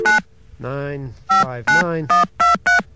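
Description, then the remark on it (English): After a dial tone, touch-tone telephone dialing as a call is placed to a business number: about six short, sharp electronic beeps in an irregular rhythm. A brief voice-like hum sounds between the first and second beeps. “Got a dial tone there.”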